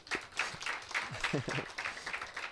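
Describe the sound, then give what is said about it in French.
A group claps in steady, dense applause lasting a couple of seconds for a woman who has just read a Bible passage aloud, with voices talking briefly over the clapping partway through. “Oui, on peut l'applaudir.”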